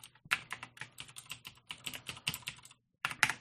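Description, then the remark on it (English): Rapid typing on a computer keyboard, clear, a steady patter of keystrokes with a brief pause before a final few taps. “That's me typing again.”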